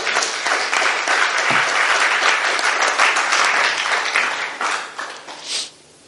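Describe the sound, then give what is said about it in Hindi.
A crowd bursts into steady, dense applause, many hands clapping together at a strong, even level for several seconds before it thins out and fades near the end. “मैं आपके लिए थोड़ा सा ताली बजाना चाहता हूँ।”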